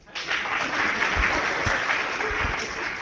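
An audience at a technical presentation breaks into applause after a laptop networking demo, a dense, steady wash of many hands clapping at a fairly loud, even level for about three seconds, with no voices over it.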